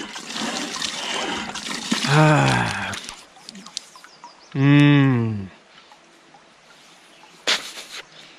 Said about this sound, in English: Anyway, check out this water pump here, guys. Look at that. We can pump our own water. Let's see if we can do it. Maybe I'm not very good at pumping. Come on, water. Oh, yeah, we got some water.